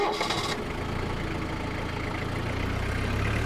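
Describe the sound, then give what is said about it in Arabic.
A car engine idles with a steady low rumble, then revs slightly as the vehicle pulls away onto a dark road heading toward Jerbo, a continuous mechanical drone with no voices. “وانطلقت السيارة في الطريق المظلم نحو جريبو.”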